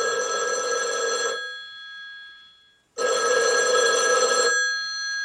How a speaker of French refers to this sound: le 15 décembre 1951, le téléphone sonne chez le docteur Gabay